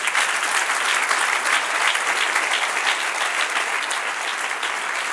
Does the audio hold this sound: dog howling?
no